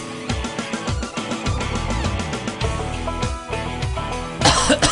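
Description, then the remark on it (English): Upbeat music plays throughout, and near the end a sudden, rough cough from someone whose cough has come back bursts out over it. “Yeah, my cough is back.”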